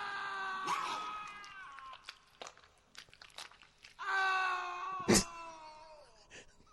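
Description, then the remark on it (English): Two drawn-out, strained howling screams of a man with wavering harmonics, layered with wet crunching and squelching gut-mangling bursts and a sharp dog bark near the end, loud with no talking. “So they just recycled the guy screaming. Right, and the gut mangling. And they took a little bit of the gut mangling and they took a dog barking.”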